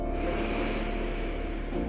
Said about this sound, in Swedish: Tre Ujjayi-andetag. Lätt motstånd i halsen på din utandning. Andas in.